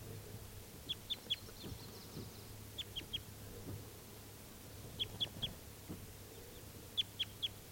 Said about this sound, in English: The female was caught, but then she escaped. 391 is still free, and he's calling in the trees nearby.